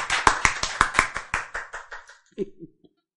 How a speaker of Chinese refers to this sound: 赞不赞？ 赞， 拍手。